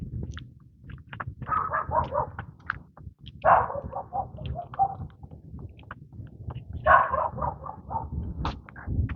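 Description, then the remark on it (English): A small yappy dog barks in three quick, excited bursts of several yips each in a residential neighborhood, over the steady footsteps of someone walking up through the streets and a low outdoor rumble. “Walking up through the neighborhoods, here's a yappy dog.”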